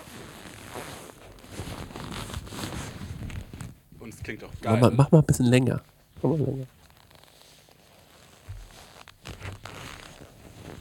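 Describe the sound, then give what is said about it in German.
Lederhosen (leather trousers) creak and rub in two loud, rough bursts, recorded with a microphone placed at the wearer's crotch, a longer stretch followed by a short one, with people talking before and after. “Das habe ich mit reingenommen, weil ich euch einfach nochmal von meiner Lederhose erzählen will. Mach mal das Geräusch.”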